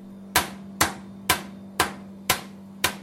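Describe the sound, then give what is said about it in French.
A knife slices an onion, already cut in half, into thin strips on a board: six crisp, sharp knocks at an even pace, each fading quickly, over a low constant hum with no talking. “Donc, d'abord, il faut couper l'oignon en fines lamelles. Je le coupe déjà en deux. Et je le coupe en fines lamelles.”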